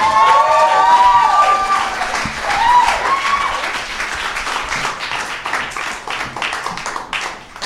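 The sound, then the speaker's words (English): An audience breaks into steady, dense applause welcoming a performer's premiere performance, with a few high whoops and cheers rising over the clapping in the first seconds before it settles into a sustained patter. “Ladies and gentlemen, please put your hands together.”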